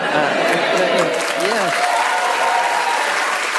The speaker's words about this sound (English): Biggest round of applause for fourth place we've ever had.